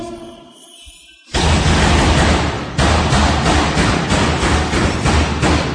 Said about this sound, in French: Là, il y en a un qui cogne contre sa porte. Donc notre quotidien parfois quand même.